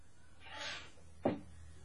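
A door being opened for a knocking visitor: a soft, broad swish of movement, then a single sharp clack of the latch or frame, fairly quiet, with no talking.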